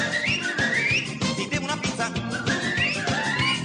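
A person whistles a lively melody in bright, gliding phrases, carried over a busy, steady musical backing with a driving beat; no one speaks.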